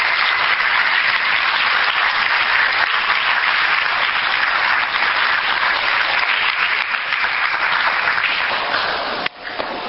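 Sustained applause from a room full of people, a dense steady clatter of clapping hands lasting nearly ten seconds, loud and close, tapering only slightly near the end.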